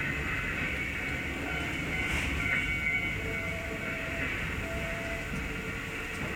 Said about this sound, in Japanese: ご乗車ありがとうございます。10時27分発快速特急京浜栗原行きです。